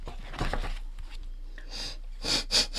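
A group of wild boars, stopped near a pond at night, sniffing and grunting: low, rough grunts early on, then a series of sharp, breathy snuffles and sniffs that grow louder toward the end.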